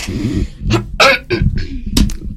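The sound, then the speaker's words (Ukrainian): A singer coughs and clears their throat several times in quick succession before singing on a live radio broadcast, fairly loud, with short harsh bursts separated by brief pauses. “Треба відкашлятися.”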